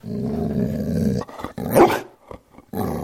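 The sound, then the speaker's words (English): A 6-year-old male greyhound mix dog weighing about 60 pounds growls low and rumbling, breaks into a single sharp bark, then pauses briefly before the deep growling starts up again. “That's Ricardo, my 60-ish pound, 6-year-old greyhound mix. He says hi.”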